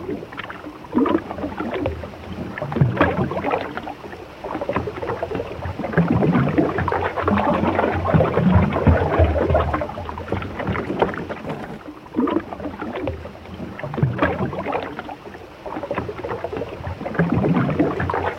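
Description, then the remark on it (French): A continuous rushing murmur of the flowing water of the Congo River, also called the Zaïre, in Africa, from a 1975 radio archive recording; dense and steady with gentle swells in loudness, and no voices throughout. “Et d'entendre ce fleuve? D'entendre ce bruissement qui me rappelle un peu une partie de ce pays-là”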